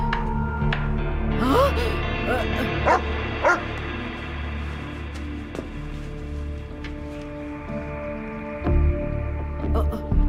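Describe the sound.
A police dog named Raikes barks and yips several times in a quick cluster near the start, then goes quiet while a steady background hum and faint muffled voices continue.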